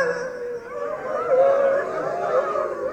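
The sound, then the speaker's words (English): A voice imitates hound dogs howling, drawn-out wavering wails layered together for a few seconds, steady and fairly loud with no pauses. “Some hound dogs back there.”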